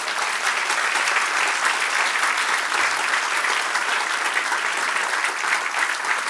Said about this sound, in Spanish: Den un aplauso, Señor.